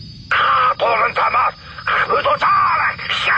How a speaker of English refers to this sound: There was a jabber of hissing, guttural language, and then the comm abruptly shut off.